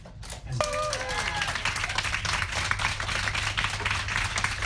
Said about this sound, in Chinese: 路透社记者瓦隆和爵梭在周二获释之后与家人团聚，路透社的同事也为这个消息欢呼。